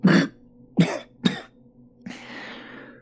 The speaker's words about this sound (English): I cough up something wet and bloody. The priest gives me a tissue from the bedside table.